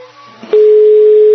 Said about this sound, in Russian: Долгожданный гудок.